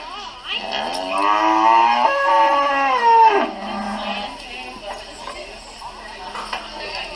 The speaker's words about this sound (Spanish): ¿Escucharon ese? Sí, es una manada de vacas que yo tengo en el patio de mi casa que las estoy criando porque me encantan los animales y todos los productos que ellas nos pueden dar.